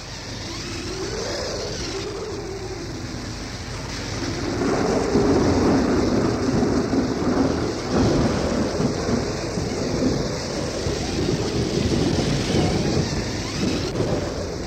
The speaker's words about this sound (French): Matinée de tempête. Voyez comme le mauvais temps a déchiré le gris manteau du ciel. Des nuages en haillons errent désemparés sur le champ de bataille.